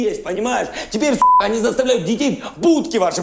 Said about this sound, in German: Die vielen Piepstöne verraten es. Schauspieler Zelensky, hier als Lehrer Vasili Galabarotka, schimpft mit deftigen Flüchen über unfähige Politiker und darüber, dass sich in der Ukraine nie etwas ändert.